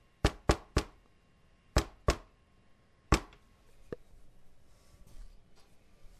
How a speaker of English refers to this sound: Okay. Knock away.